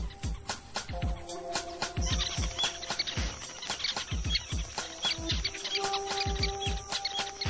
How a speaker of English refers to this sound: The adult weaver birds escape from their nests, streaming downwards.